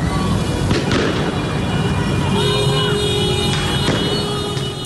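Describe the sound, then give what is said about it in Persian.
Car horns blare in sustained tones over a dense, loud street crowd roar during popular protests in Iranian cities on Thursday evening, with several sharp bangs cracking out now and then amid the commotion. “گزارش های رسیده به رادیو فردا حاکیست که برخی شهرهای ایران شامگاه پنجشنبه نیز صحنه اعتراض های مردمی و بوق زدن خودرو بوده است.”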